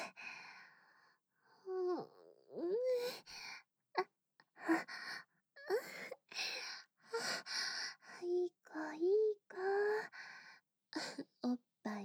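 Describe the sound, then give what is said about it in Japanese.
Close, wet sucking and smacking mouth sounds repeat in short bursts, mixed with breathy gasps and little hummed sighs, like a voice imitating a nursing baby. “おっぱいチュッパチュッパ。さすがかわいい赤ちゃん。おっぱい吸うのとっても上手。”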